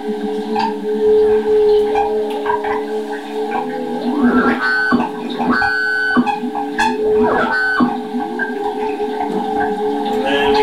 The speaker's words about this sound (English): Theremin. That was the weird hum.